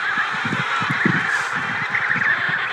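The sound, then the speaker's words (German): A penguin colony screeching, with many harsh, honking calls overlapping into a steady, loud chorus that never lets up. No one speaks. “Niemand sagt ein Wort. Nur die Pinguine kreischen.”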